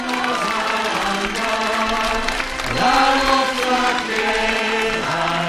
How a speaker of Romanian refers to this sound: Încurajări și aplauze, multe, în unele momente chiar ropote, când brațul drept, ridicat în semn de salut, descoperea mai mult porțiunea de gips care de două zile îi protejează fractura încheieturii.